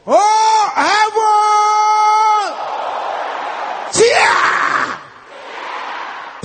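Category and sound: crowd, audience shouting loudly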